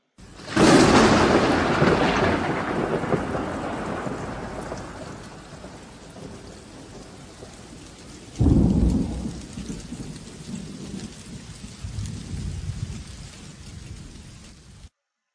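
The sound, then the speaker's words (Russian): Heavy rain pours steadily while thunder rolls loudly at the start, fading into a long rumble, then a second crack of thunder booms midway and trails off beneath the downpour. “Их догоняла высокая стена гудящего ливня. Гремел гром.”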